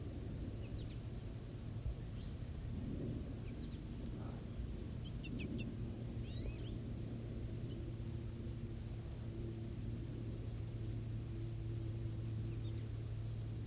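Juvenile and female birds in a tree give faint, scattered high chirps and brief twittering calls over a steady, loud low mechanical drone that continues throughout.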